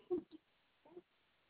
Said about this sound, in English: That was like a truck driver burp.